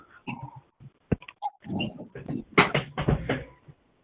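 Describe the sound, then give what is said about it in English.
Creaks, clunks and scraping as a chair is adjusted, with a sharp click partway through and a cluster of louder rattling knocks toward the end. “Hang on 1 second. My chair is ticking me off.”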